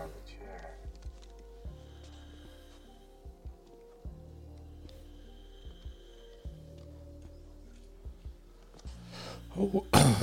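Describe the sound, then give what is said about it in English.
A couple of sharp coughs burst out right at the end, following a long stretch of low steady hum and faint background noise. “Sorry for coughing.”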